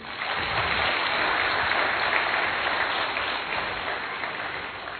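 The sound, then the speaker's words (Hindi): A crowd at a Dussehra (Vijayadashami) gathering claps loudly and steadily for the Durga Devi seated among them, a dense wash of many hands that holds strong throughout and eases slightly toward the end, with no voices standing out. “हम चाहेंगे जोरदार तालियां।”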